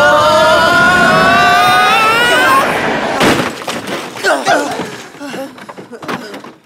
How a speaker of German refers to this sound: Mit voller Wucht knallte die Lore gegen den Prellbock.